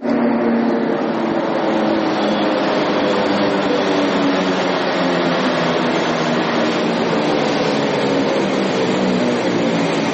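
A Beovoz Belgrade suburban commuter train rumbles steadily as it pulls up at a platform of the brightly lit Prokop, the future Beograd Centar railway station, a loud continuous drone of wheels and machinery with hissing noise on top and no distinct breaks.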